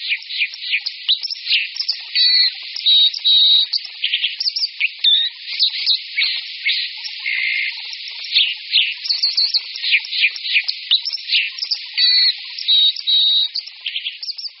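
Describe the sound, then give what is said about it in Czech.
A white-throated dipper male sings continuously, a loud, high, rapid stream of scratchy trills, buzzy notes and sharp whistled phrases, unbroken for the whole stretch with no voices. “Poměrně hlasitý zpěv skorčího samečka však můžeme zaslechnout již v zimě.”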